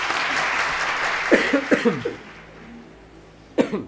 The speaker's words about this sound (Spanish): Tenés huevo, dale, la verdad, aplauso para vos este.